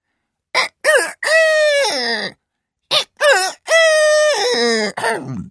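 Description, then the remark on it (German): A rooster crows twice in a row in a yard, each call starting with short choppy notes and stretching into a long, loud, strained cock-a-doodle-doo, with a brief pause between crows. “Kaum hat dies der Hahn gesehen, fängt er auch schon an zu krähen.”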